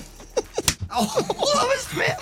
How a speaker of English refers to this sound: I'm slapping